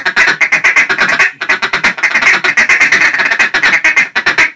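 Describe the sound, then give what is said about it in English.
Two duck callers blow rapid, overlapping hen quacks and cutting together, each sounding like two hens, a loud, continuous run of quick nasal notes with only a brief pause near the start. “But realistically, let's just do some cutting on some quacks, but not the aggressive. And just hear two callers.”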